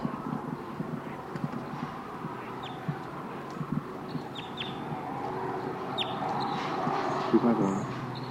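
wild birds calling loudly

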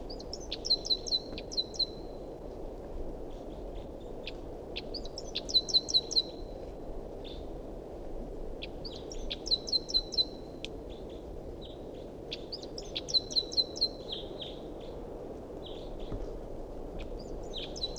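wild bird calling

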